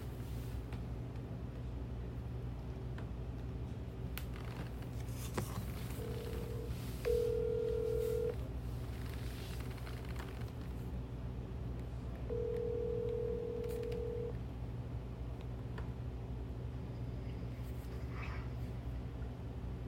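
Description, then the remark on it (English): A phone call is placed and rings out: brief dialing tones, then steady ringback tones repeating every few seconds over a constant low rumbling hum, with no one answering or talking. “All right, let's give them a call.”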